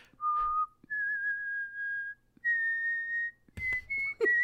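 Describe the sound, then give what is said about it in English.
A man sitting on a living-room couch slowly reaches out his hand and whistles a few long, steady, clear notes at slightly different pitches, fairly loud, with a brief breathy rustle near the end and no talking. “sort of look around the room, and then he would reach out his hand slowly and whistle.”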